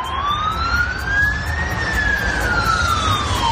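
air raid alarm sirens

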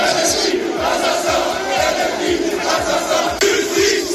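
crowd shouting slogans

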